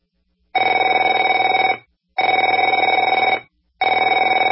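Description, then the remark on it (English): A telephone bell rings in three loud bursts, each a rapid metallic trill lasting over a second with short silent gaps between, the last cut off at the end. No one speaks. “Afraid to answer it?”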